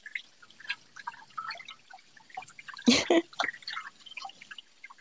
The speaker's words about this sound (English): Power washing your brain, sir. That's just like spraying water into your face.